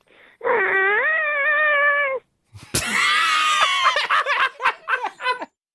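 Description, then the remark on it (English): A radio show caller does a long, drawn-out imitation of a cow's moo, its pitch wavering upward, then breaks off; a loud burst follows, then bursts of laughter. “Can you give us a big old cow moo?”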